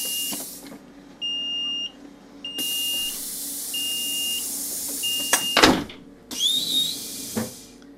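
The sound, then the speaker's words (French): Train doors sliding shut, closed by the train conductor before departure, amid a steady series of high, evenly spaced warning beeps, with hissing mechanical noise and a heavy thud as the doors close, with no talking. “Je ferme les portes du train, je ferme ma porte.”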